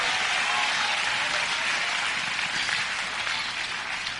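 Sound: audience clapping and shouting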